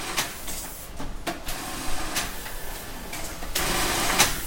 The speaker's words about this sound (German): Nähsaal der Firma Karl Konzelmann in Teilfingen. Die Frauen an den Nähmaschinen arbeiten routiniert und genau.